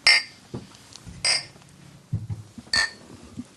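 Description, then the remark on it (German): Three bright glass clinks ring out one after another in a toast, each with a short shimmering tail, over a quiet background with faint low rumbles between them. “Dann auf jeden Fall Prost.”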